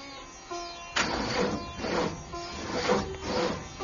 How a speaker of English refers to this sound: Sounds like the magic bus is broken down.